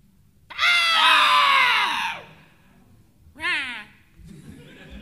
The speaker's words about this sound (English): And the next one in front of it, on and off, in a pattern towards the beak of the monster. It screeches at you.